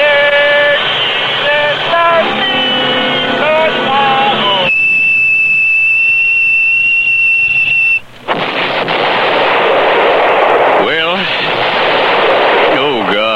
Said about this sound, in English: An even bigger explosion than I thought.